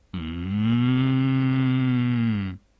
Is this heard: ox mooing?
yes